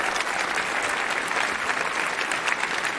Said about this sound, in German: Das ist mal ganz, ich würde sagen, da haben wir eine ganz stabile 9,0. Dafür einen riesen Applaus. Das ist echt Hammer.